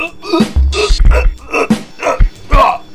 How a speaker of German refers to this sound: Das ist aber ein übler Husten, ne?